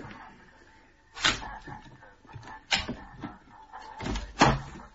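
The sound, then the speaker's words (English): A shop door being unlocked and opened for waiting customers after 7 o'clock: a series of sharp clunks and rattles, with a few louder bangs spaced over several seconds, and no voices. “Customers at the door and it's gone 7. Are you going to open up?”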